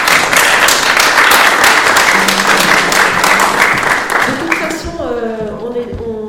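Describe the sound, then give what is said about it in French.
A room full of people applauds loudly with dense, steady clapping that fades out after a few seconds, as a single voice starts talking at the end. “On peut applaudir”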